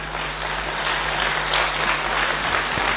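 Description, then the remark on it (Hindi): An audience breaks into applause, a dense, steady wash of many hands clapping at an even loudness for about three seconds, with no voices rising above it. “ताली किसके लिए बजाया?”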